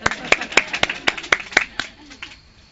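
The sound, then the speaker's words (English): Brief applause from a small audience thanking the event's hosts: a few seconds of sharp hand claps in an uneven rhythm that thin out and fade to quiet. “You can clap.”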